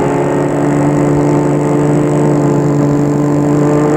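A car engine hums steadily and loudly as the vehicle drives along a small departmental road from Versailles, France, into the countryside, a constant drone with road noise and no voices, as if from inside the car.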